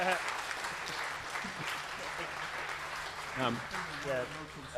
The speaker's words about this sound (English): So I think this guy needs a big cheer, because he wrote probably the most important thing on this patch.